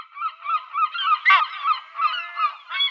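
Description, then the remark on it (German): A chorus of seaside birds calling over and over, their harsh, nasal cries overlapping in a steady, busy stream at moderate volume with no voices. “Es wird heute um diese Vögel gehen.”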